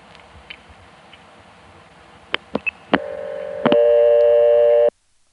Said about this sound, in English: Oops. She heard the signals from the coins going in.